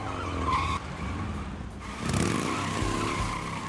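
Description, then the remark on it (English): Bones skids to a stop in front of a police car with a screech of tires over a loud, rumbling engine, followed by a burst of broad road noise. No one speaks. “As the taxi follows the minivan, Bones skids to a stop in front of a police car.”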